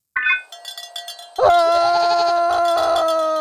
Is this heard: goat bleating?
yes